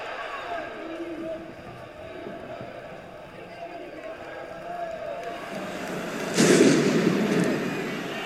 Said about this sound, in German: Ich weiß nicht, ob Sie das laute Geräusch gehört haben. Wird einmal kurz anders. Klang wie eine Explosion. Leute schauen sich um hier, nichts zu erkennen.